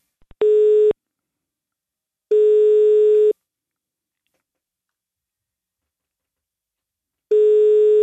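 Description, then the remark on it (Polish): A telephone ringback tone sounds three times while a call is placed to Radio Akadera in Białystok: steady, mid-pitched electronic tones about a second long, separated by long silent gaps, preceded by two faint clicks. No one speaks. “I z tej okazji właśnie dziś postanowiłem odezwać się do Radia Akadera w Białymstoku, żeby dowiedzieć się, jak koledzy i koleżanki z podwórka zamierzają uczcić ten dzień, więc dzwonimy.”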